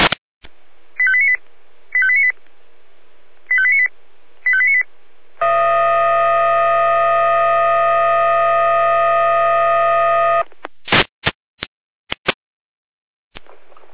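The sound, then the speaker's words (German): Fire brigade radio alerting tones from Leitstelle Jena: four short paired beeps, then a long steady multi-tone blast lasting about five seconds, then a few sharp clicks and bursts of radio static, alerting Feuerwehr Frauenbriesnitz to a water ingress in Rotameuschel. “Leitstelle jeder mit Alarmierung.”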